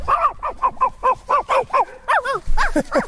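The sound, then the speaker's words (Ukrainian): A tall grey-haired man imitates a dog barking for a group of children: a rapid, loud string of about a dozen short woofs, with a slightly higher, yappier run near the end. “А собачка?”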